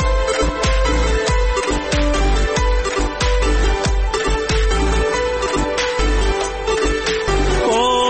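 An instrumental song intro plays loud and up close, a full melodic arrangement over a steady, regular beat, with no voices.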